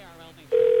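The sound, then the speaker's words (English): A brief murmur of voice fades out, then a loud, steady ringback tone starts abruptly and holds, the ringing heard on the caller's end of an outgoing phone call. “Please answer the phone.”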